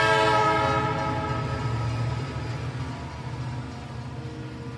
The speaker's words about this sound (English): Good morning, passengers. Fantastic F train making express stops in Queens. Next stop is from Penn Station.